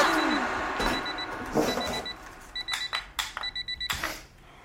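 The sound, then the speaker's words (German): An alarm clock rings with rapid, high electronic beeps in repeated bursts, moderately loud, with some rustling and clatter at the start. “Ja, wenn du den Wecker nicht ausmachst. Mach den Wecker aus.”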